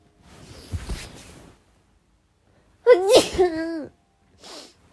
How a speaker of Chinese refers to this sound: 哎，我好想打喷嚏，我妈耶！